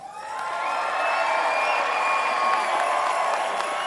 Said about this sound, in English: So it's a long, long way from Southern Arizona to Central Florida. But let's just hear from the folks at Savvy a big, loud federation cheer.